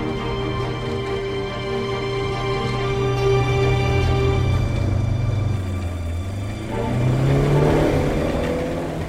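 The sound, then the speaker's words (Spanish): A car engine revs and accelerates, its pitch dipping then climbing sharply as a second engine's drone blends in: a grey car quickly pulls ahead of a red car that had accelerated alongside it, leaving the red car behind. No talking. “Pinto se adelanta rápidamente y el auto rojo queda atrás.”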